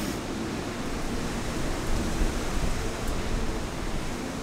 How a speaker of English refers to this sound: And the wind, you can see the rain kind of coming across in sheets like it does in coastal storms.